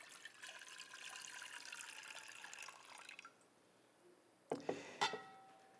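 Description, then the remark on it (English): Water pours steadily into a basin for a few seconds, then stops; after a brief pause come a few splashes and drips. No one speaks. “And then He poured water into a basin.”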